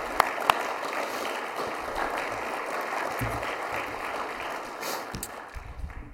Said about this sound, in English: Yeah, clapping is a good idea. Let's do that.